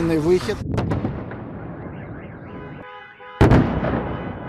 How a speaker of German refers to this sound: Am Wochenende waren wieder einmal Explosionen in Kiew und in vielen anderen Städten der Ukraine zu hören. Bei russischen Luftangriffen wurde auch die Energieinfrastruktur getroffen.